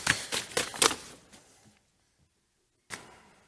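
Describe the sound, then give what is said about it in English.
A preacher at a pulpit turns over three sheets of paper that were upside down: a quick run of crisp rustling and flipping sounds, then a brief pause before one more sharp turn of a page. “I've got the first paper right side up and the remaining two upside down.”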